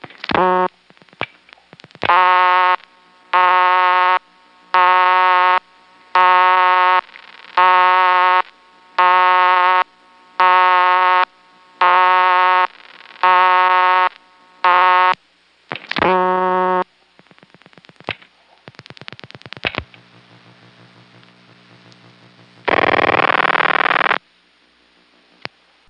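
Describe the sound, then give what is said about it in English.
Telephone line tones from an office PBX phone system while dialing an extension and then reaching a ringing tone: a buzzy tone pulses on and off about a dozen times in an even rhythm, then switching clicks and a brief burst of hiss. “Now from the PBX, dialing my own extension and then a ringing number.”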